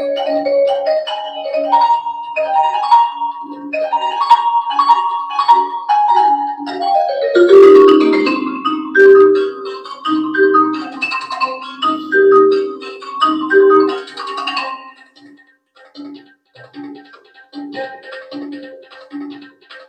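A vibraphone plays a fast, flowing virtuosic piece with mallets, its metallic notes ringing and sustaining into each other, loud with no talking, before thinning to sparser tones near the end.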